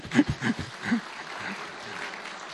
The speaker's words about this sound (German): Ja, Applaus.